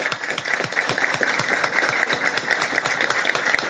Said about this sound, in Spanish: que las vi por allá, que quiero pedirle un aplauso.